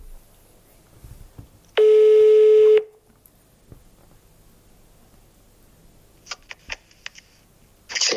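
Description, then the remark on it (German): A loud, steady electronic telephone tone sounds for about a second, followed by quieter scattered clicks and short bursts like keypad presses or line noise, with a brief tone at the end, as a phone call is placed to a member of a Krampus group from Strobl. “Die Strobler Höllenfürsten rufen wir an. Na dann, los geht's. Hoffentlich hebt er ab.”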